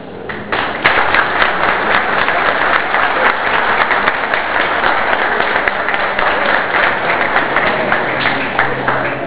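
Sustained applause from a sizable audience at a council session marking an election for the 2007-2008 term, dense rapid clapping at steady loudness for several seconds, with no voices rising above it.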